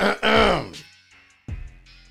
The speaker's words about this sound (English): Let me clear my throat.